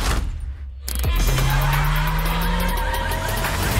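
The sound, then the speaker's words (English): Car sounds blend into a music track, a sustained engine-like drone sliding steadily in pitch over a dense, loud background, with a brief dip before the sound swells back in. “all had, like, car noises and gunfire, like, mixed into the track.”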